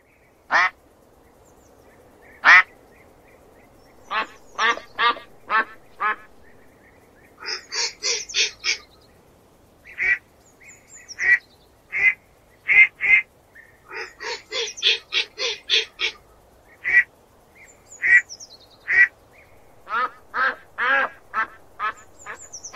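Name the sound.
duck quacking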